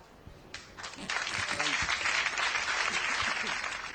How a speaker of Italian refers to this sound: E allora ci siamo sentiti anche l'applauso, perché no, ne valeva la pena tutto.